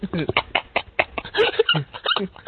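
A dog barks and yips in a rapid, excited string of close, loud bursts, with whiny squeals mixed in between the barks.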